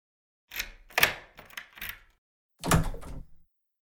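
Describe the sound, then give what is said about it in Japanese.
A series of metallic clicks and rattles as a spare key works in a door lock, followed by a louder clunk as the door bolt turns and the door opens. “合鍵、合鍵。”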